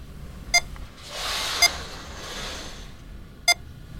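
Three short, bright electronic beeps from a screening test in a colour vision experiment, where the participant presses a button after each beep. They sound at irregular intervals, two close together early and one later, standing out clearly over a soft, hissy background with no talking.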